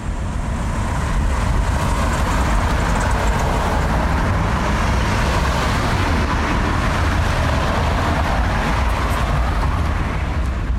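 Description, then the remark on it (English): Steady roar of busy street traffic on Lake Street in Oak Park on a nice day, vehicles rumbling and swishing past in a continuous low-pitched wash, loud throughout with no talking. “So right now, let's hear what that sounds like, starting with the sounds of Lake Street.”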